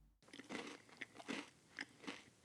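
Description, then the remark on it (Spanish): Crisp crunching of breakfast cereal being chewed, a series of sharp crackly bites repeating at an uneven chewing rhythm, with no voices. “Los cereales hacen crunch, crunch.”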